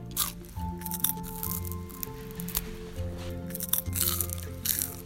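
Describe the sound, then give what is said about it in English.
Crisp crunching as a roasted locust is chewed, with irregular crackly bursts over a few seconds and steady background music underneath. “Ooh, real crunchy one right there. Yeah, this one's crunchier, but it's also a lot saltier.”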